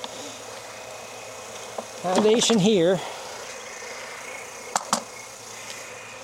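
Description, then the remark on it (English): A steady drone of many honeybees buzzing around a hive frame as a beekeeper pulls frames from the hive, with a man briefly speaking over it and a couple of sharp clicks near the end. “Bees on that one.”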